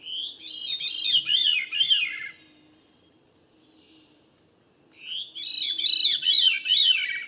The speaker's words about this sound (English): Or a thrush, like this veery.